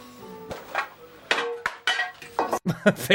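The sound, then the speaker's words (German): A string of objects tumble and crash down at a workplace, with sharp metallic and glassy clinks ringing out among irregular clattering impacts that grow busier toward the end, fairly loud. “Fällt einfach alles runter. Hier ist mein Arbeitsplatz. Schepper, schepper, klirr.”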